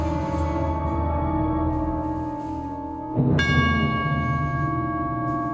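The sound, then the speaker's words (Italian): Large plates ring like orchestral bells in a piece of music, their bright metallic tones sustaining and overlapping, with a fresh, louder strike midway that blooms into a shimmering chord. No voices. “Queste campane in realtà sembrano puntare verso Duopul Bruno.”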